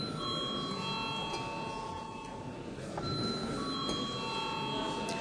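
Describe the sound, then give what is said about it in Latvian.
A continuous electric bell rings steadily for several seconds, a bright sustained tone: the voting bell of the Latvian parliament (Saeima), rung before a vote on a bill, with faint room murmur underneath. “Lūdzu zvanu.”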